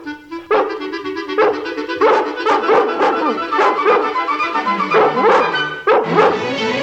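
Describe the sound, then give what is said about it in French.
A dog barks over and over in quick, insistent bursts, fairly loud and muffled from behind a door, with short yips between the louder barks. “Soudain, un chien aboie derrière la porte.”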